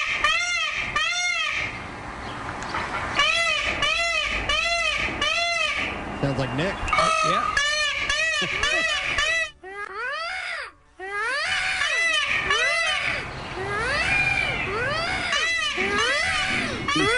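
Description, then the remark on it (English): An audio recording of a bird's mating call, the call used to lure an escaped bird into a fenced yard, repeats in loud, rapid bursts of rising and falling harmonic squawks, pausing briefly midway before resuming, with a short spoken remark near the end. “We have audio of the bird call? Yeah, we do. Here we go, the mating call.”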